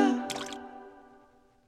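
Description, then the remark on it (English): A single water drip lands with a soft splash and leaves a clear, ringing tone that slowly fades away, with no voices. “Drip, drip, for drip. Only 5 cents a gallon? Goes the water.”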